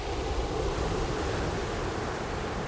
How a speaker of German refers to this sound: Kein Wind. Sondern Meeresbrandung bei Fluthöchststand. Die Insel des Klanges. Der Anfang aus Bill Fontanas Il Sonore.